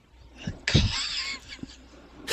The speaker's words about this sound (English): Excuse me, I've got to cough again. Sorry.